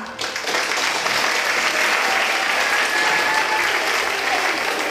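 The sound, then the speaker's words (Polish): Audience applause at the award of the 2022 Łódź Businessman of the Year title to the owner of the Walduś delicatessen chain, a steady, dense wash of clapping that swells in within the first moment and holds at an even, loud level throughout, with no voices standing out. “Wielkie brawa!”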